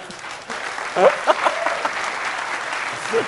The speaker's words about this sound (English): Now, I know that you didn't applaud, and I know that I paused waiting for your applause. So clearly you did not understand that this is huge.